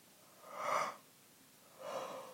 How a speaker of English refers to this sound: Oh, whoa. That was such a good yawn. Sorry. Stretching.